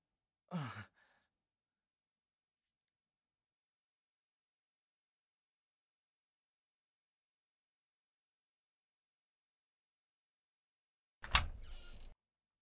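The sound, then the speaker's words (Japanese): A brief breathy sigh-like sound at the start, then long silence before a door moves and shuts with a solid thud and short rumbling tail near the end. “うん、扉がまた。”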